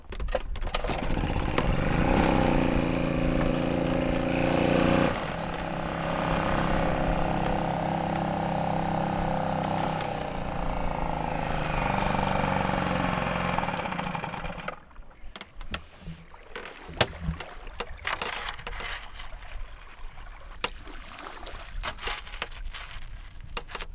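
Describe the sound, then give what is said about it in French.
A boat motor is started and runs loud, its steady drone holding for about fifteen seconds before cutting out, leaving quieter irregular knocks and water sounds, with an east wind blowing that day. “Excuse-moi, j'allume le moteur. Allez, moteur.”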